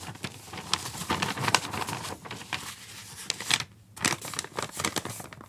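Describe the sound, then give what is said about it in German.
A sheet of paper is picked up and folded in the middle, giving dry crinkling and rustling with quick irregular crackles and a brief pause partway through. “Nimm das Papier in die Hand. Falte es in der Mitte.”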